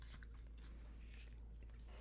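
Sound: chewing gum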